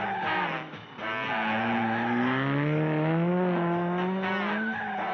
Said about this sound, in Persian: از این سمت آقای نظافتچی داره فروشگاه رو تمیز میکنه، یهو یه صدایی رو میشنوه، صدای یه ماشین که داره حرکت میکنه. وای خیلی ترسناکه.